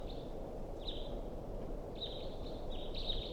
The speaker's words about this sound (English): So recording, this is a wild bird.